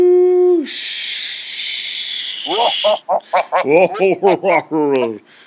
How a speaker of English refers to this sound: All right, go. I'm ready for static radio. Beep, boo, beep, boo.